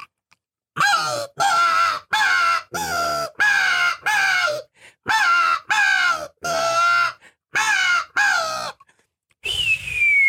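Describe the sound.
A rapid series of about ten loud, harsh crow caws made on a hunting call to imitate a crow fight, clustered in agitated bursts, then a single high descending hawk-like scream, an imitated hawk call, at the end.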